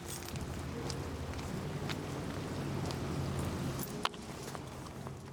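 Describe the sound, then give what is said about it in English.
Steady, dense rain hisses across the whole clip on a wet day in Tillamook County. It leaves standing puddles in a gravel yard and rattles through a building's gutters, with scattered sharp drips and taps and one louder knock near the end. No voices. “The overpowering sound is of the rain that leaves standing puddles in the gravel yard and rattles through the gutters of the building.”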